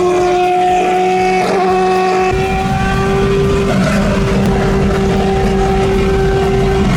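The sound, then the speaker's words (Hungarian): A Formula 1 car, the Schumacher car, screams along a Czech motorway at speed, passing another car, its high, steady engine whine loud, with heavy road and wind rumble swelling in after a couple of seconds. No voices. “az autópálya melyik Forma 1-es autó”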